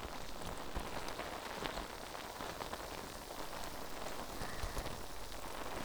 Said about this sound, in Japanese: 泡が耳元でシュワシュワする音、お好きですか？